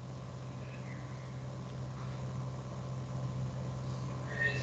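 A small camping fan runs steadily, giving off a constant low motor hum with an airy whir over it, holding an even level throughout with no voices.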